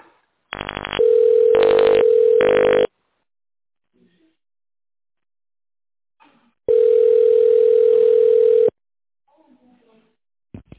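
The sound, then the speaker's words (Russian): A steady telephone ringback tone on the Alfa company's phone line while waiting for an operator to answer, sounding in a few short pulses, then going quiet before one long, loud two-second tone; a few faint clicks and murmurs fill the gaps. “Наберите внутренний номер вашего менеджера или дождитесь ответа оператора.”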